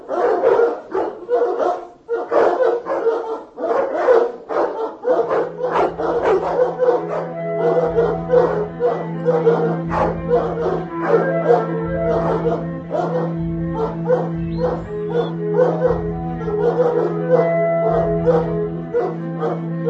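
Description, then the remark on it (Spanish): A pack of hounds bark loudly and continuously, their overlapping yelps forming a dense, ragged chorus. About a quarter of the way in, a steady low droning tone joins beneath the barking and holds to the end. “La leyenda dice que en las oscuras y tempestuosas noches, aún hoy es posible encontrar en Litovel la jauría salvaje que corre detrás del fantasma de Jan Schembera, convertido en ciervo.”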